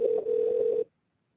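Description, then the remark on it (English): A single phone ringback tone of a call being placed to a man: a steady, mid-pitched buzzy hum held for under a second, then cutting off to silence. No one speaks. “We're calling him right now.”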